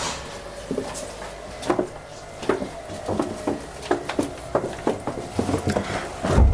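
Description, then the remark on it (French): A cellar door being opened, heard as a string of irregular wooden knocks and rattling clunks, moderately loud, with a faint steady hum underneath and no talking. “C'est quoi qu'a fait ce bruit? La porte.”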